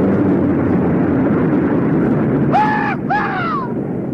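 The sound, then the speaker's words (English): A steady, heavy droning roar of 24 C-47 transport planes flying in tight formation fills the whole stretch, with two short, high, falling whistle-like cries cutting through near the end. “C-47! Sunlight gleams on the noses of 24 transport planes flying in tight formation.”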